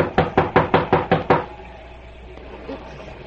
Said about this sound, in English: The lights flicker occasionally as the rural power lines sway before the gusty fury of the storm that rages outside. Suddenly, and over the strident clamor of the storm, a knocking at the door is heard.